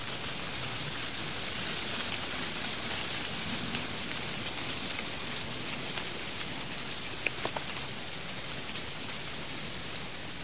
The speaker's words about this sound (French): La pluie s'aggrave.